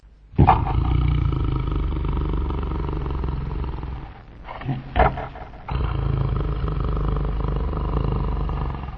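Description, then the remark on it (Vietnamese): A wolf sleeping soundly in a grassy meadow snores loudly: deep rumbles, a long, growling drawn-out breath, a brief pause with a couple of snorts, then another long rasping rumble. No one speaks. “Khi tới cánh đồng cỏ, dê mẹ trông thấy sói đang ngủ say, ngáy ầm ĩ.”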